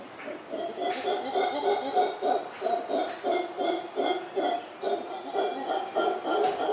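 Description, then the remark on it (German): Deep, rhythmic roaring calls from howler monkeys, very small animals about the size of a lap dog, played back from a video, pulsing in repeated hoarse bursts over several seconds, loud and continuous with a low rumbling, hooting quality. “Brüllaffen, ich muss mal hier gucken, ist so ein kleiner Kollege, lauter Sound.”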